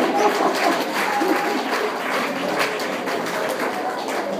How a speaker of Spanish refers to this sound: Denle un aplauso, gloria a Dios.